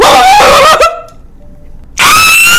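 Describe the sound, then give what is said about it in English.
A person imitates a dog barking, with two loud, drawn-out yelping howls separated by a short quiet pause. The voice is strained, almost like a scream. “What if I bark?”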